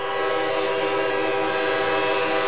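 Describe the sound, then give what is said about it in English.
An approaching train's horn blares in one loud, unbroken note with a rich, layered tone, holding steady from start to finish with no voices. “You know, you can be issued a hefty ticket for being caught on a railroad crossing when a train's approaching.”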